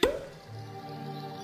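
A single sharp cork pop from a bottle right at the start, hollow-sounding, followed by a low, steady hum that lingers quietly to the end.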